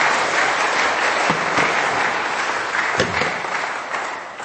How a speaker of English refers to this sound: Round of applause for all my volunteers. Thank you very much.